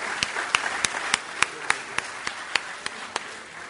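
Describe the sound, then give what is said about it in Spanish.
A crowd at an award ceremony applauds the company Codeleste, a steady wash of clapping with a dozen sharp, evenly spaced claps standing out in a quick rhythm. No one speaks. “Así que nada, doble aplauso para ellos.”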